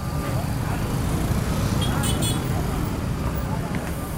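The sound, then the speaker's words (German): Steady, dense late-afternoon street traffic in the small town of Albania in northeastern Colombia, with motorcycles, shared taxis and shuttle buses carrying workers, engines and a low rumble throughout, and brief brighter blips like horns or chatter, continuous without pause. “Am späten Nachmittag herrscht viel Verkehr in der Kleinstadt Albania im Nordosten Kolumbiens.”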